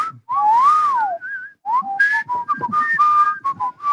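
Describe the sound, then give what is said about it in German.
A person whistles a short melody, the clear tone sliding and stepping between pitches in quick phrases with brief breaths between them. “Könnt ihr Melodien pfeifen, einigermaßen?”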